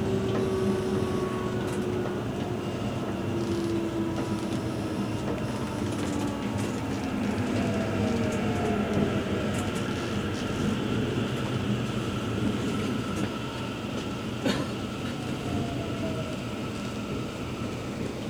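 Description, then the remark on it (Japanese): A train rolls steadily along, slowing down because it is getting close to the train running ahead. Its continuous rumble and rattling wheels fill the space, with faint whining tones gliding downward as it eases its speed. No one speaks. “今前を走る電車と近づいているため速度を落として運転をしております。”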